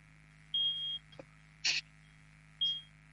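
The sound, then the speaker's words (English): Three short, high-pitched electronic beeps from a fire alarm in an office sound at an even pace, each lasting about half a second, with a faint click and a steady low hum underneath. “I think there's some fire alarm going on in the office.”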